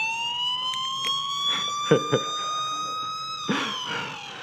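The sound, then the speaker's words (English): An ankle monitor alarm blares continuously as the monitor is taken off, a loud, steady electronic wail with a slowly shifting pitch, with a few handling clicks and bumps partway through. “So it does actually give an alarm.”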